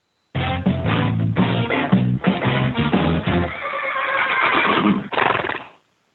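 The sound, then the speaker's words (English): A horse whinnies loudly for about five seconds, a long quavering neigh that rises, wavers and trails off into a breathy snort at the end, with no voices. “Here's your daily Winnie.”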